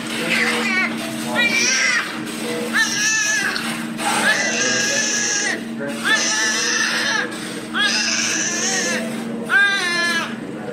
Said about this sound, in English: And so what they really wanted was to hear this baby come out and be healthy and alive and cry and sort of announce itself to the world. And as we were waiting to go into their room through the door, you could hear the baby crying.